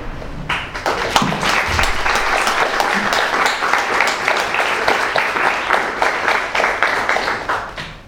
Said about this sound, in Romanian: În fine, au înmulțit plăcerea noastră, conștiința noastră că limba română are, în primul rând, virtuțile și capacitățile de a se adapta, de a cuprinde orice fel de provocare intelectuală, și pentru asta trebuie să le aplaudăm și pe ele din seara.